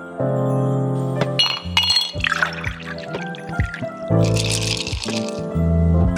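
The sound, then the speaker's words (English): A drink is poured with liquid gurgling and splashing, followed by bright glassy clinks, fairly loud, with no talking over it. “So lower the lights, grab your favorite beverage, and join your host,”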